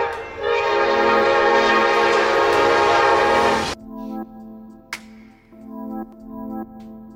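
train passing with horn

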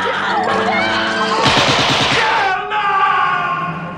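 gunshots

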